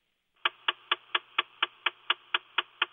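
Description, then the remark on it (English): A rapid, steady ticking from beneath a car dashboard, where vacuum motors move ventilation doors: about eleven sharp, evenly spaced clicks, clear over a faint background hum, with no one talking. “under the dash there were vacuum motors that moved ventilation doors”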